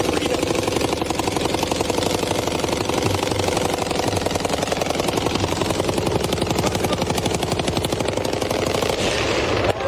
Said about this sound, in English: Yeah, that wasn't a helicopter. That was a fully automatic, appeared to be about a 50 caliber machine gun mounted on top of a truck. That's an automatic weapon.